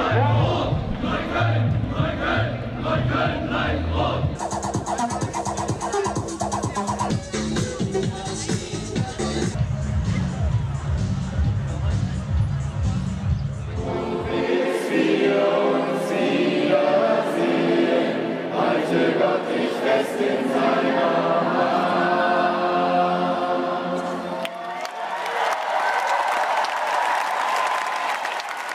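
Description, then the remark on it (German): A loud crowd cheers, bawls and chants in rhythmic bursts, then breaks into massed singing with clapping, the roar of many voices sustained throughout. “Ja, so klingen sie, die heutigen Massen, jubelnd, gröhlend, skandierend, singend.”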